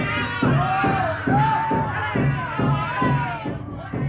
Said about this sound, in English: And when last seen, our good friends from the Poll Parrot, in their search for Captain Dalton, have been surrounded by these same savages. Amid the shouts of the savages, Mr. Grange speaks.